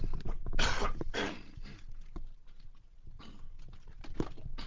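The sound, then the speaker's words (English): A person coughs several times after taking off a headset, muffled as if away from the microphone, in a couple of clustered bursts separated by quieter pauses, with no talking. “Sorry, I'm going to take the headset off and have a little cough.”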